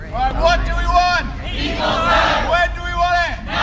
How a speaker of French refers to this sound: Les cris de ralliement de ceux qui sont en faveur d'un second référendum. Ici, ce sont les jeunes du groupe de pression pro-européen OFOC, Our Future, Our Choice, Notre Futur, Notre Choix, qui se sont rassemblés près du Parlement.